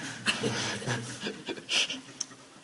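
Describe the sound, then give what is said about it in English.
A series of short, breathy coughs in an uneven rhythm, with one louder, rougher burst toward the end. No one speaks. “I'm paying him £5 a cough as an assistant.”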